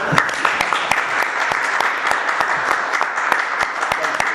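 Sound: applause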